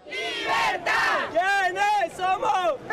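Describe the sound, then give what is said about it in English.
A large crowd of thousands of supporters cheers and shouts loudly at a rally greeting National Assembly Speaker Juan Guaido, with rising and falling chant-like whoops blending into a continuous roar of many voices. “Meanwhile, across town, thousands of cheering supporters greeted National Assembly Speaker, that is, Juan Guaido, in a separate rally.”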